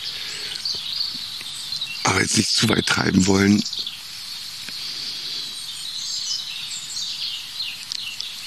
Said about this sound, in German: Das heißt fast, ich kann mich nicht satt hören an diesem Gesang. Und dazu ist das einfach ein super spannender Vogel, das Rotkehlchen.